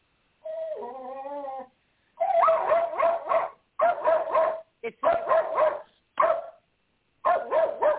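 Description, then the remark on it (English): A pet dog gives a drawn-out, wavering whine, then breaks into loud, rapid barks and yips in several clustered bursts separated by short pauses, reacting to another dog outside. “And oh, my God, my dogs.”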